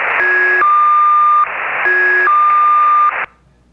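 The squeak of the Squeaky Wheel, a Russian shortwave station with Enigma call sign designation S-32: a loud electronic two-tone pattern, a higher beep sliding to a lower sustained tone, repeated twice over a bed of radio hiss and static, then cutting off.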